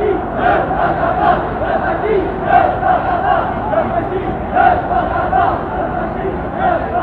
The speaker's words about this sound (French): Le défilé continue toujours. Je compte des rangs de 20 qui défilent à peu près à la cadence de 500 par minute. Toujours les pancartes, toujours les banderoles, toujours les mêmes slogans répétés par la foule.